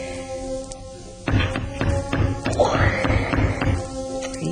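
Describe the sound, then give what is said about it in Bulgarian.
A hammer knocks a nail into a hard wall with about seven sharp taps in a fairly steady rhythm, each blow landing with a dull thud. Nobody speaks. “Ако съм улучила пирона в тухла, ще се изкриви.”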